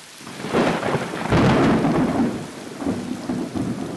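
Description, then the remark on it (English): Heavy monsoon rain in Southeast Asia pours down steadily in a dense, hissing wash while deep thunder rumbles and swells, with no voices present. “The monsoon has started in Southeast Asia, and while the torrential rains and high winds might deter additional boats from making the journey, it's only added more misery to those already at sea.”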